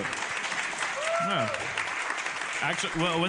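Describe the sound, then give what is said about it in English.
An audience of people from Rhode Island claps steadily in a dense, continuous patter for about three seconds, with a few voices whooping and calling out over the applause. “Who do we have here that's actually a Rhode Islander? Clap.”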